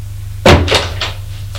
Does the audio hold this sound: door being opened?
yes